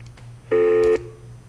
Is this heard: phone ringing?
yes